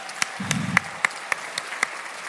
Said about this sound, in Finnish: Nyt saa taputtaa luvan kanssa.